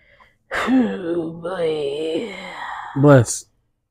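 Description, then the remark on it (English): A single loud sneeze: a long, wavering voiced build-up lasting a few seconds, ending in a sharp, breathy burst. “Bless you.”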